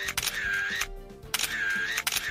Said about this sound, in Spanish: Este sonido de los flashes cada vez es más inusual. Ya la mayoría tiramos de móvil o de cámaras digitales para inmortalizar nuestros momentos.